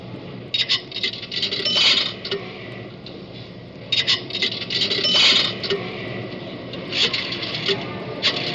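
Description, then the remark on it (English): Nickels are deposited into a pay phone to make a call, dropping with bright metallic clinks and rattles in three separate bursts over a low, steady background hum. “Oh, yes, says deposit a dime or two nickels. Well, wait till I get this other nickel out of my pocket.”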